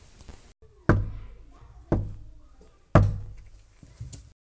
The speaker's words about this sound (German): Der Wolf klopft an die Tür.